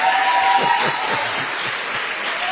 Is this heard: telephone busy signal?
no